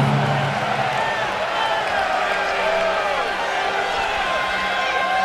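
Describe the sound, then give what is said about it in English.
A capacity arena crowd in Chicago roars and cheers in a loud, sustained wash of overlapping voices and shouts for several seconds, reacting as a popular former wrestling heavyweight champion is called for. “Listen to the reaction of this capacity crowd.”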